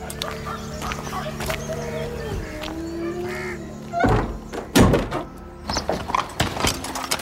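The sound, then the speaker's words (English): A heavy door thuds shut with a solid wooden thunk, followed by a second knock-like bump and some rattling, over a steady low background hum with faint bird clucks. “Close the door behind me.”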